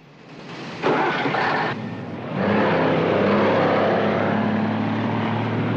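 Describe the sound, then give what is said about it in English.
A freight train roars past on rail tracks beside a parked truck, a loud, sustained rumbling rush that swells sharply within the first seconds and stays heavy and steady throughout, with a deep low drone underneath. “Parked by rail tracks, the Acme truck driver wakes up in his cab as a freight train roars past.”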